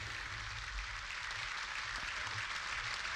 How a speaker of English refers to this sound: They're all rising to their feet now. And we would expect that the people we saw coming up the stairs, led by the Ciaran Corla, are going to come down the stairs and into the chamber, and the applause has begun.